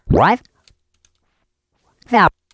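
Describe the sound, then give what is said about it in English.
A few soft, scattered arrow-key presses on a computer keyboard tick quietly while scrubbing through audio, between two loud, warbling bursts of sped-up, voice-like playback, one at the start and one near the end. “So I'm going to scrub with my arrow keys because I want to get to that mouth noise.”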